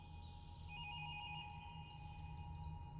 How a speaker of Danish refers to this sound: Telefonen, den ringede jo meget tidligt den morgen. Og jeg vidste allerede, da telefonen ringede, at der var sket noget.